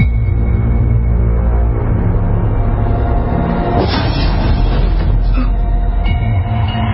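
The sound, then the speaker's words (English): A bus rolls steadily along a road far up north, its low engine drone and road rumble filling the whole stretch at a loud, even level, with a brief rattling swell midway through. “Not many ride the bus this far north.”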